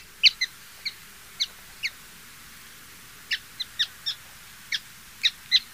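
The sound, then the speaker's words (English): A grayish miner (Geositta maritima), a small ground-dwelling songbird, gives a series of short, high, sharp call notes, spaced irregularly in two bursts with a pause between, in the Atacama Desert against a quiet, faintly windy background. “And yet, there's at least one bird that calls this place home. It's the grayish miner, Geocitta maritima.”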